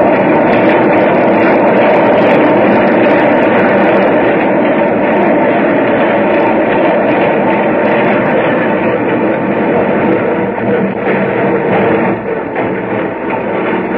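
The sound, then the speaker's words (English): A subway train rumbles and rattles loudly and continuously, with a steady roar that eases slightly near the end as it slows to a stop at 72nd Street station. No one speaks. “Now the train was stopping.”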